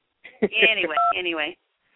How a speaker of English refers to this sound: So I'm not beeping. There you go. Who is that beeping? I don't know. We have some beeping going on the line.